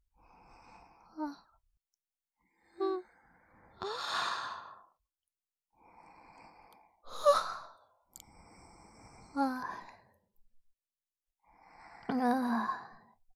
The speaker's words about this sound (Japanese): またあくびしちゃった。